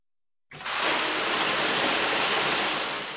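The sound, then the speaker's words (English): A shower runs steadily after half a second of silence, a dense hiss of water spraying and splashing with no pauses or voices. “Take a shower.”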